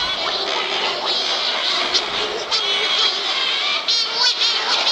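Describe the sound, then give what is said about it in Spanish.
A colony of Cory's shearwaters on La Gomera calling all at once, a dense, continuous chorus of harsh, wailing and nasal cries overlapping without pause, loud and steady throughout. “Son las pardelas cenicientas atlánticas, nuestras aves marinas más viajeras”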